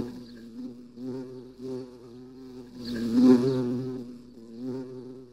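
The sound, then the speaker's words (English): A bee buzzes steadily around a room throughout, its droning hum wavering in pitch and swelling louder around the middle, then easing back again. No voices are heard. “A bee was buzzing around the room.”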